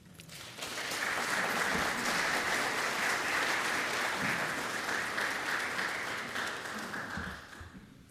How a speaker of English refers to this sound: Please help me welcome them with a round of applause.